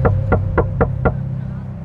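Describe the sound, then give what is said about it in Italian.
Five sharp, evenly spaced knocks rap in quick succession on the driver's window of a taxi, to the driver's left, from a man in dark clothes who wants a ride. Then they stop, leaving a steady low engine-like hum droning underneath. “Subito dopo, mentre sfiora con le mani le chiavi dell'auto per estrarle ed uscire, sente dei colpi improvvisi sul finestrino del guidatore, proprio alla sua sinistra.”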